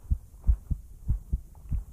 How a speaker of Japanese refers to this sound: ハデスの心臓の音聞こえますか？前に本で読んだんです。心臓の音には人間を安心させる力があるって。